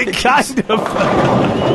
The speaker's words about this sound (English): All right, that's enough of the bowling noises. They're kind of freaking me out there. I thought it was going to storm outside.